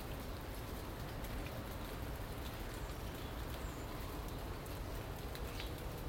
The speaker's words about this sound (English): But yeah, we've got rain, and but it's fortunate it's that beautiful, beautiful, calming, relaxing, gentle, straight down rain.